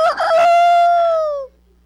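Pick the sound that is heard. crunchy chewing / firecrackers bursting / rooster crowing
rooster crowing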